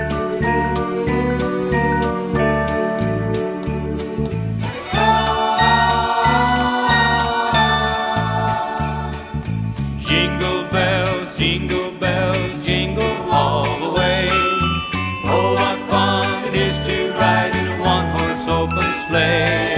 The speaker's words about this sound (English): Here he is singing Jingle Bells.